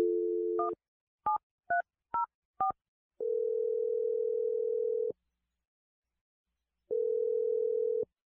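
A steady dial tone gives way to five quick touch-tone beeps as a phone number is punched in on the radio show Brooke and Jeffrey in the Morning, followed by two long ringback tones separated by a pause. No voices are heard.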